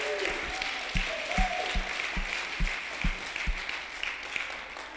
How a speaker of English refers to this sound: Whoa, here he comes. You all can applaud for him. There you go.